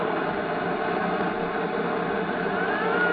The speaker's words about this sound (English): Watch it. Here comes a new car. Looks like it might be the boys we want.